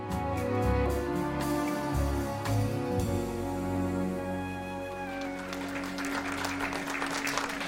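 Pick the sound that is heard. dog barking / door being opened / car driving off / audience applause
audience applause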